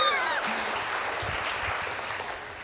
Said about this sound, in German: Ein Applaus für die Kinder.